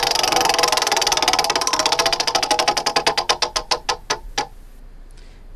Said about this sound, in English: Let's spin the wheel.